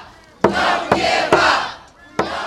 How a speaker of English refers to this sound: Ali said he feels he must give up, but the crowd shouted back. Don't give up!